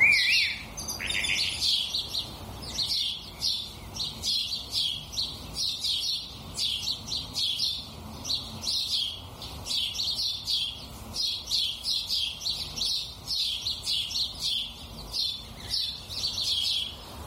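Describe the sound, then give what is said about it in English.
Steady, busy chirping from a sparrow, short bright calls repeating in quick irregular bursts for the whole stretch, clear with no voices. “I think it's sad that sparrows have become so rare.”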